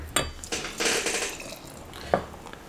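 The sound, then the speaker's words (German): Bottle-conditioned beer pours into a first and then a second glass: a short fizzing, splashing stream with a few sharp glassy clinks before and after, and no voices. “Bier ist im ersten Glas. Und ich glaube, das könnte jetzt... Bier ist im zweiten Glas.”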